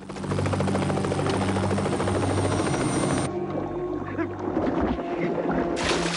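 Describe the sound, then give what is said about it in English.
A white helicopter's heavy rotor thrum fills the scene over icy water, loud and steady, then the high whine cuts off as the helicopter zooms away and the engine noise thins, with a brief burst of hiss near the end. “The chopper drops and the boss picks up the case off an ice floe.”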